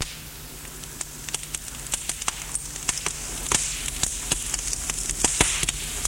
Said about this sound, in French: Lucrèce a fait un feu de cheminée. Ils sont assis près du feu.